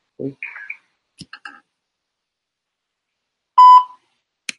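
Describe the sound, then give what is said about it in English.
A single loud, steady voicemail beep rings out near the end, preceded by a few faint, brief blips and clicks, with a soft click at the very close. “Please leave your message for too, as well. Let's leave this voicemail.”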